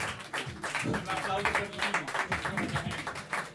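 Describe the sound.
Audience applause, a dense, steady patter of many hands clapping at a fairly strong level, with voices talking and calling out over it throughout.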